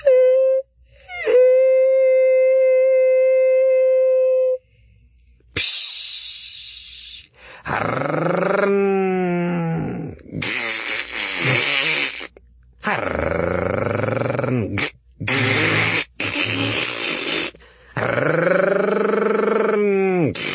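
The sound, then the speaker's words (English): A voice imitates a bus stopping, being boarded and taking off: first a steady, high, squealing tone, then a hiss, then loud growling engine noises that rise and fall in pitch over several bursts, like gears shifting as it pulls away, the driver unable to find the gear. “While I'm here, just to lighten the mood, I'll do a bus, getting on a bus, and then taking off. Here's the bus stopping.”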